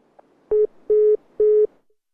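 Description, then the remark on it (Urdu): Three steady, evenly spaced beeps of a phone's busy tone after a mobile phone call disconnects, each about a quarter second long, clear, with short silent gaps between. “Disconnect ہو گیا ہے پھر اب چونکہ ظاہر ہے ابھی موبائل سے بات چل رہی ہے.”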